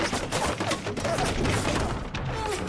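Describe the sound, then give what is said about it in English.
Wooden siege ladders coming up a wall groan and creak in short, wavering mid-pitched strains as defenders try to shoot the orcs down off them, buried in a dense, continuous battle din of clattering impacts and thuds. “That wonderful creaking. As they're trying to shoot all the orcs down off the ladders. All those wood creaks.”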